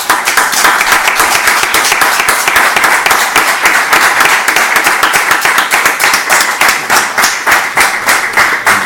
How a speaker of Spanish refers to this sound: Bueno, lo primero, un aplauso.